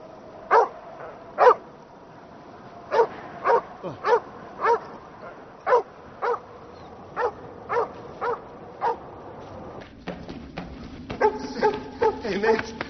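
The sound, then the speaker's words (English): A dog on a walk barks repeatedly, around a dozen sharp, evenly spaced barks, with a steady busier background joining toward the end. “I was walking my dog.”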